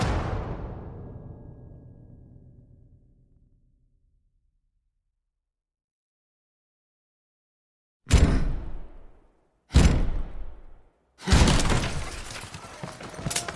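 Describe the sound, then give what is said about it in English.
A heavy splintering crash, as William Montagu and his companions crash through the door of the Queen's chambers, rings and fades over several seconds; after a silence, three more loud, violent bangs burst out in quick succession. “When Montagu and his companions crash through the door of the Queen's chambers, there's shocked silence.”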